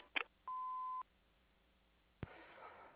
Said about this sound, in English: We're not available at the moment. Leave a message after the beep.